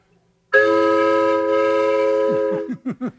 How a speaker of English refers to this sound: I was telling him about some of your instruments that look like toys, but they're not really toys. Yes, here's a train whistle. This is a big train.